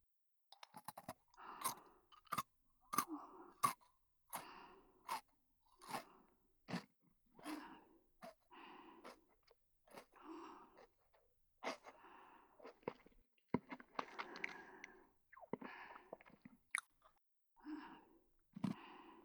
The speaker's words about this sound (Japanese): 左耳はポリポリ。